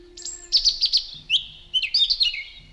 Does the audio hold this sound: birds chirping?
yes